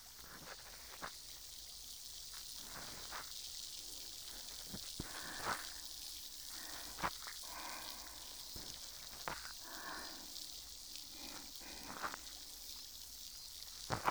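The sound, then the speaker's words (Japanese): Steady fizzing hiss of a carbonated cotton swab used for cleaning, with scattered sharp crackles and pops throughout, continuous and fairly quiet, with no voices. “炭酸の音、嫌だったりはしませんか？”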